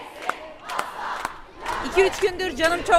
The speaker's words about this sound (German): Weil die Morde so brutal waren, aber auch weil Femizide und Gewalt gegen Frauen in der Türkei so alltäglich sind, protestieren Frauen wieder in vielen türkischen Städten.